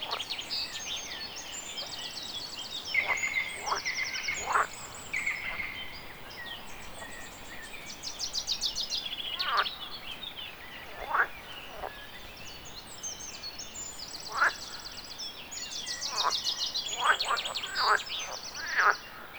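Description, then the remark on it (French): Outdoor pond ambience full of overlapping bird calls and chirps, with croaking frogs and trilling sounds scattered throughout over a steady natural background hiss; no one speaks. “Approchons-nous de la mare à pas de loup.”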